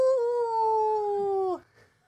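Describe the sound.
A person voices a loud, sustained wolf-like howl after mentioning Alexander Stewart, the Wolf of Badenoch, one long steady tone that holds for about a second and a half before sliding down and cutting off.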